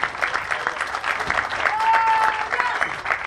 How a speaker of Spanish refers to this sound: aquí estudiantes, porque hay estudiantes aquí, un aplauso para los estudiantes de la UNAM que están aquí.